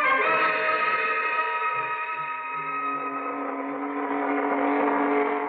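A speedboat engine drones steadily for several seconds, a loud, even motor hum with a rich buzzing tone and no voices.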